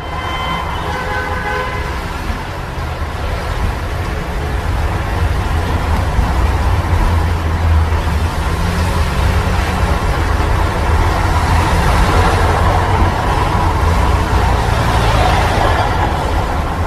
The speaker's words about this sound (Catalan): Ara estem sentint trànsit perquè és inevitable, però he de dir per als oients que s'hi respira bastanta tranquil·litat, eh?